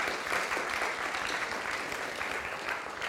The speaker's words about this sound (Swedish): Så ska vi ge dem en liten extra applåd, alla dessa som har spetsen för det.